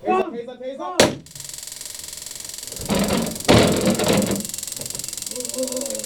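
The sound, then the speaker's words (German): A sharp pop, then the rapid, steady electric clicking of a taser fired in a training exercise demonstration, going for several seconds, broken by loud bursts of scuffling noise, with a man's voice before and after. “Die Vorführung des Tasers steht bei dieser Übung im Fokus.”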